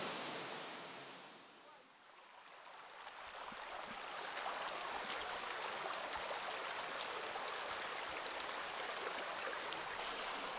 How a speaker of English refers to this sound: We're still on top now, some white limestone, which the water's slowly going along and it's descending down into a turquoise pool at the base. And the turquoise pool looks like it's really quite deep.